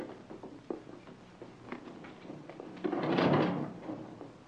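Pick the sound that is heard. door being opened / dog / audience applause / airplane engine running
door being opened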